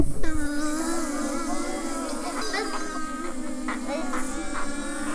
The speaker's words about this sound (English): And there are lots and lots of flies buzzing.